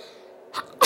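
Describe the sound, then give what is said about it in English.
A sharp sneeze: a brief breathy intake followed by a loud, bright burst at the end. No speech, just a quiet hum in the background. “Bless you.”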